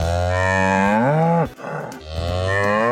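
animal, cow mooing

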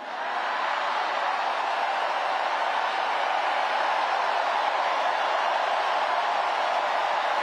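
crowd, crowd cheering

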